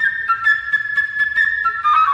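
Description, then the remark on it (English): A flute plays the bird's theme as an orchestral instrument, a bright, high bird-like melody, trilling and fluttering with quick rapid notes that stay steady in loudness throughout, with no one talking. “First, the bird. He is represented by a flute.”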